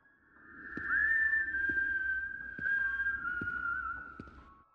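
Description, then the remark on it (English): High, clear whistling of an unfamiliar tune at midnight holds a long, slowly wavering melody line for several seconds, with soft regular thumps beneath it, like footsteps. No one speaks. “It was whistling, not the cry of some bird, but the high, clear notes of some unfamiliar tune.”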